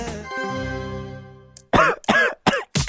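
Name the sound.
coughing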